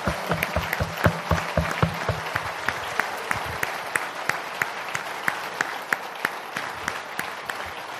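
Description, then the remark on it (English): A sizeable standing audience gives a sustained, enthusiastic ovation for a pastor, a dense steady wash of clapping with sharper individual claps popping out, lasting the whole stretch without fading and with no talking over it. “So on this note, I'm going to request that we all stand up and join me in giving a very deserving round of applause”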